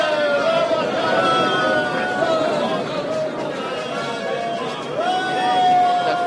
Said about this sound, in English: As Joan bowed her plumed head from side to side, and the sun glinted on her silver mail, the crowd of spectators cheered wildly.